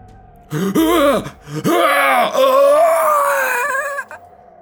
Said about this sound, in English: The man gasps, his dead eyes open, his jaw loose and flailing, his body arched and arms scrabbling for Oda's firm grip around him.